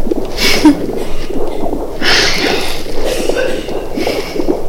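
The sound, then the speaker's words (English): A fetal heartbeat on an ultrasound monitor in the Skit Guys skit Motherhood, heard as rhythmic, muffled whooshing pulses that repeat steadily over a low, grainy background hum, fairly loud, with no talking. “And right there's the heartbeat.”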